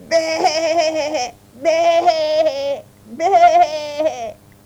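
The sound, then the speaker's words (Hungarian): A frightened lamb, hiding in the corner of a hut as a wolf enters, bleats three times in quick succession, each cry long, loud and shakily quavering, with short pauses between and no other sounds. “Bebújt a sarokba, onnan bégetett ki rettenetes hangon.”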